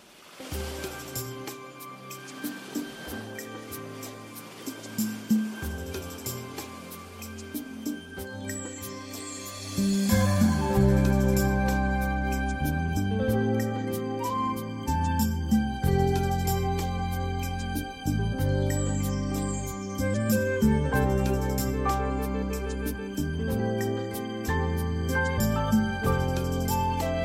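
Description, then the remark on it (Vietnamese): A recorded Vietnamese song's instrumental intro opens softly over a wash of ocean-like surf, then swells around ten seconds into a full, steady band arrangement with a bouncing bass line. “hôm nay Bích Chuyên xin mời quý vị thưởng thức nhạc bản rất hay của anh”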